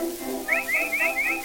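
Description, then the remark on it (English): A person whistles a quick series of four short, rising chirpy notes in an even rhythm to call a dog named Rover, fairly clear over a soft, low musical background. “I'll bet he hears me whistling.”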